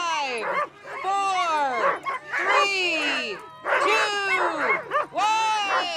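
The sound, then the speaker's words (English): A chorus of sled dogs barking, yipping and howling excitedly at the start of an international sled dog race along the Chena River in downtown Fairbanks, many voices overlapping in dense, continuous, loud bursts with short breaks. “The 37th running of the UConn Quest International Sled Dog Race got underway along the Chena River in downtown Fairbanks yesterday morning.”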